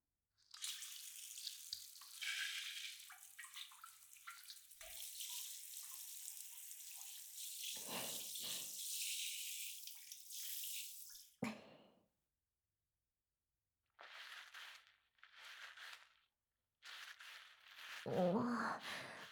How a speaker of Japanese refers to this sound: 次は、髪、シャンプーするので、まずはお湯で濡らしますね。